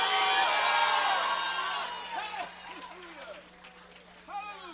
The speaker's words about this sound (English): Somebody shout hallelujah. Oh, come on, scream hallelujah.